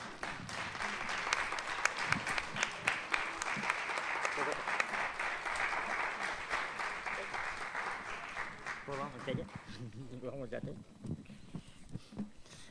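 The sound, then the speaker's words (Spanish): An audience claps loudly in a dense, steady burst of applause that thins out after several seconds, and then a man starts speaking as the last scattered claps fade. “Un fuerte aplauso.”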